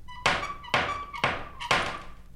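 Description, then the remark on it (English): Four firm knocks on a wooden front door carved with flowers and trumpeters, evenly spaced about half a second apart, each a solid thunk with a short ringing decay, with no one speaking. “There were carved flowers and trumpeters on the front door. He knocked.”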